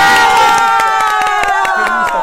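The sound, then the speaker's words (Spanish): A studio audience at Radio Fórmula claps and cheers loudly on the premiere day of Marco Antonio Regil's program, with sustained high-pitched whoops over a steady run of sharp, separate handclaps lasting a couple of seconds. “¡Aplausos, chicas!”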